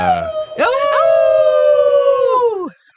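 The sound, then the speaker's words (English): A long wolf-like howl from human voices, swelling in and holding a steady pitch for about two seconds before sliding down and cutting off. Loud, with no talking. “We are the she-wolves!”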